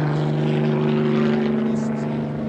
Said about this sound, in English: One helicopter now is in real low. Military police helicopter.